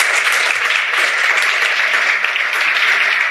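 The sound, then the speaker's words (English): A crowd applauds the panelists after a discussion, a dense, even wash of many hands clapping at a constant loudness throughout, with no voices rising above it. “One more round of applause for our panelists.”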